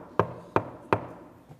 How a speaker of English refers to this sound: and I knock.